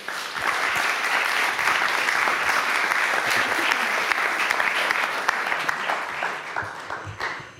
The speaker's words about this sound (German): Und jetzt dürfen wir Sie mit einem herzlichen Applaus auf die Bühne bitten.